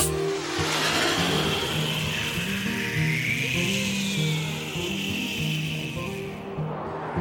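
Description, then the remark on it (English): A loud, steady tractor engine chugs along with a low, rumbling drone, its pitch wavering slightly as it runs without a break for several seconds. “Oh, going for a ride, my tractor.”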